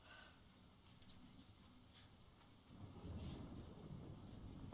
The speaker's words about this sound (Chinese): 你们觉得雨声大吗？还是小了？各位，雨声大了还是小了？